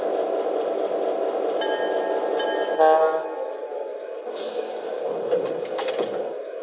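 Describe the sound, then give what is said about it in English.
A passenger train, number 14 from El Paso to Albuquerque, rumbles steadily at a station on track 2, the low roar continuous, with a brief tonal horn-like blast midway and faint clanks and hisses near the end. “Now departing for Albuquerque on track 2, train number 14, El Paso to Albuquerque.”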